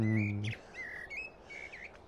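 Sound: loud bird chirping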